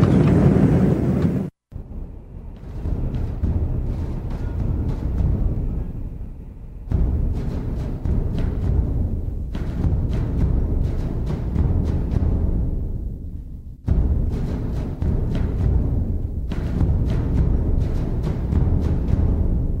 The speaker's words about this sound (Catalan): La Mars Odyssey es va enlairar de Cap Canaveral, Florida, el 7 d'abril de 2001. We have ignition and liftoff of a Delta II rocket carrying NASA on an Odyssey back to Mars.